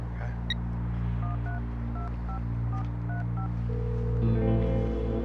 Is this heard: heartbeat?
no